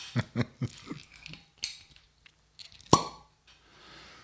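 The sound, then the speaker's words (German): The screw cap of a 2013 Cabernet Sauvignon wine bottle from a winery in Stellenbosch, South Africa, twists open with a quick run of four or five crisp crackling clicks, then a brief lull and one sharper metallic snap. No one speaks. “Also der Schraubverschluss klingt gut.”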